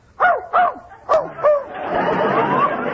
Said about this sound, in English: Just as I thought, you do have a dog in here. He's in that closet. Quiet, Fletcher. Quiet.